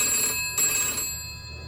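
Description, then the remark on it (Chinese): A telephone rings at night, close to midnight, with a bright, sustained electronic trill, heard alone, with the tone holding steady through the short moment and no one speaking. “又响了一次。唐薇不再犹豫，接起电话。”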